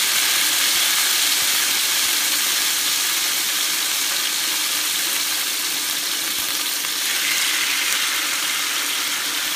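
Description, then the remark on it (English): Salmon fillets sizzle steadily as they sear in a hot pan set at 400 degrees, a loud, continuous crackling hiss that holds even for the whole stretch with no talking. “Or put my salmon in here, I shouldn't say fishes. You'll hear a sizzle, and that's what I want because I want it to get a really nice sear.”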